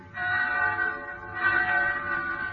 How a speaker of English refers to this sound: So one night I'm in town in Pensy. Bells. I hear bells. What? And then it catches at my throat. It's New Year.